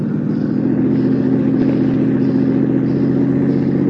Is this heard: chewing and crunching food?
no